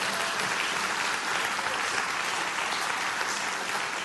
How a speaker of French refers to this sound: On l'applaudit ensemble.